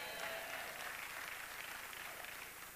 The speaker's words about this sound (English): You might have clapped too quick, because I want to talk to you about what it means to be a kingdom builder.